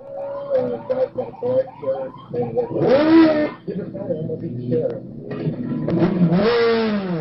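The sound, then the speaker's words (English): Motorcycle and police car engines rev and roar during a police chase of a motorcyclist in Dallas, recorded by a police car's dashboard camera, crackly and muffled, with rising and falling siren-like wails swelling twice. Indistinct voices blur underneath. “What unfolds in this video has three police officers facing criminal charges for beating a motorcyclist after a chase.”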